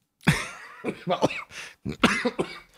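cough

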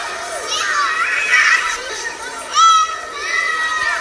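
children playing

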